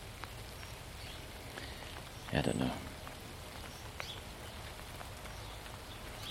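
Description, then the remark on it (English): Steady, even rain falls straight down with no wind on a mild day, a continuous soft hiss dotted with individual drop ticks, while a man briefly mutters a few words partway through. “The positive side is it's not windy, so it's straight down rain, and it's actually very mild.”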